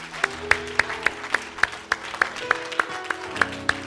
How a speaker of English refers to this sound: Let's give the Lord a round of applause here.